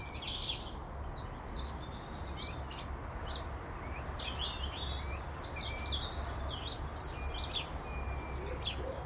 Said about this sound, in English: Oh, I can hear some up in the Leylandi. There's lots of activity, massive activity, and now more song, so are the birds getting as excited as I am about spring?